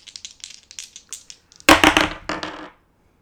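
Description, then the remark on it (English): Two dice rattle with a quick series of light clicks, then tumble out in a loud, sharp clatter that lasts about a second before stopping abruptly. “I'm gonna roll two dice this time.”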